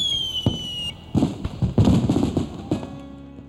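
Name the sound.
aerial fireworks bursting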